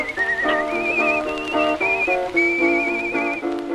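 A clear, melodic whistled tune with a slight vibrato glides over a steady accompaniment of strummed chords on a 1924 old-time country recording, no voices present.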